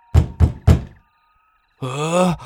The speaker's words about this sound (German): Es klopft an der Tür.